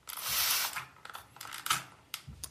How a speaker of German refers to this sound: Bei dem besagten Geräusch handelt es sich um eine Sprühflasche. Genau. Wow. Ja, und hier ist sie nochmal. Hört's nochmal hin.